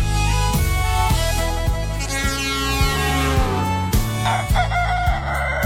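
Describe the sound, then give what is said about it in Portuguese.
A rooster crows loudly, its drawn-out cock-a-doodle-doo sounding over a steady, busy musical background that fills the whole clip. “Galo vai cantando aí também, Galo já tá cantando na madruga aí?”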